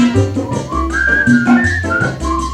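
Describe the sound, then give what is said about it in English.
A clear, high whistled tune glides and wavers between notes for a couple of seconds, carried over a steady musical backing with deep bass notes. “Cannot sleep at all because Pito whistles when he snores.”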